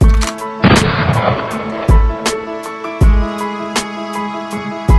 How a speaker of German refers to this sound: Ja, ich nahm sie gleich mit, der zweite Schuss gilt für mich.